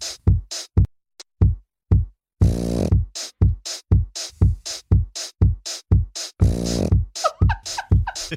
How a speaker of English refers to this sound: God, pugs. Yeah. There they are. Yeah, those are pug sounds. All right. It's pug snoring.